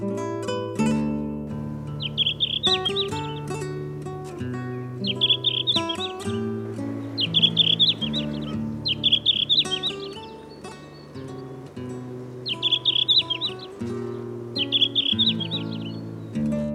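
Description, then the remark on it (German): A red-flanked bluetail sings short, bright warbling phrases, repeated about six times at regular intervals of a couple of seconds, clear over a soft, steady musical backdrop. “Das war der Blauschwanz.”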